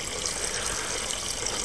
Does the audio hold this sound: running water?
yes